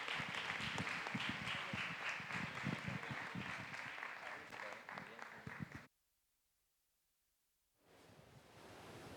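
A crowd applauds steadily for several seconds for the leaders who accompany young people, a dense, even patter of clapping that cuts off abruptly, followed by a brief silence and then a softer wash of noise.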